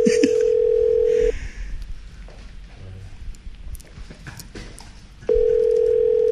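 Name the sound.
telephone ringback tone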